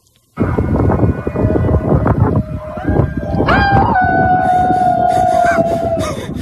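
A neighborhood crowd in Sausalito howls and whoops together from their homes at night in the 8 o'clock howl, the voices overlapping in a noisy chorus, while one long howl rises and then slowly sinks across the last few seconds.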